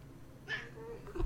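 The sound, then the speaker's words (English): A female cat named Pow gives a single short, high meow, fairly soft, against a quiet background with a faint low hum. “Featuring my cat, Pow.”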